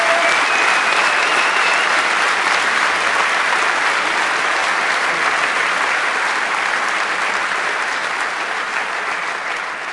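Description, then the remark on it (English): A crowd applauds steadily for the full ten seconds, a dense, loud wash of clapping that tapers slightly toward the end, with no speech over it, applauding themselves and the 42 contestants up front after a contest. “Give yourselves a round of applause and give a round of applause for these guys.”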